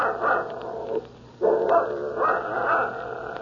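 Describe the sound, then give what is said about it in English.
A dog barks loudly and insistently, with a string of sharp, yappy barks that pause briefly and then continue; no one speaks. “Shut that dog up.”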